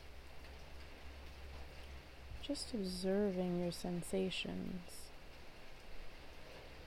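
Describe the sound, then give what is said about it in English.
Steady rain patters down across different surfaces in a soft, continuous hiss, with a calm voice speaking briefly over it in the middle. “the sounds of the rain landing on different surfaces.”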